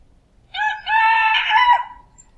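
A rooster crows once, loud, a strained cock-a-doodle-doo in two bursts that stretches out and trails off, with no voices around it.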